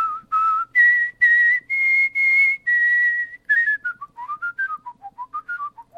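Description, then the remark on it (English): A world champion whistler gives a clear whistled melody of the familiar children's tune, starting with steady sustained notes that climb, then a quicker descending run of short notes with a light, playful lilt. “he also performed his rendition of Twinkle, Twinkle, Little Star”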